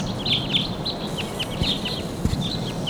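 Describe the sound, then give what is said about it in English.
A flock of wild birds calls repeatedly while flying overhead, with overlapping high chirps and short whistled notes over a steady outdoor background hum, continuous throughout. “Birds.”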